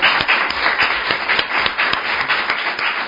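Steady applause from a show's audience welcoming a special guest, the author of the novel Memorias en la Nube, many hands clapping in a dense, continuous patter at an even loudness for the whole stretch, with no voices over it.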